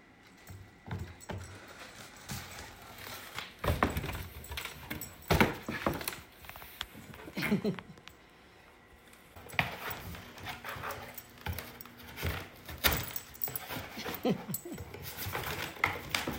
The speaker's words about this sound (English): Like, I can close my eyes and picture this happy dog, just absolutely tearing the box to shreds.